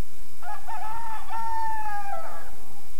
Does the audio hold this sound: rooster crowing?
yes